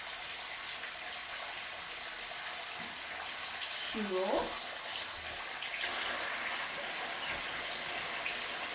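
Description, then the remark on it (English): Water runs steadily into a bathtub with bubble bath added, a continuous rushing hiss that fills the whole stretch, with a brief voice sounding faintly partway through. “Get some bubble baths in it.”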